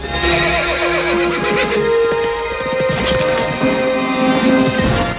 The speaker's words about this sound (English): Forrest's and Masu's horses land on the other side. Together they ride away.